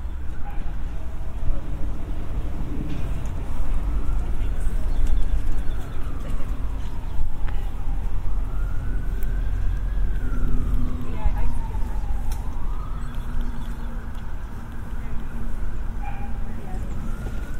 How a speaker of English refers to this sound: Siren in the distance. You know, I've always, growing up in London for a lot of my life, sirens are just this constant.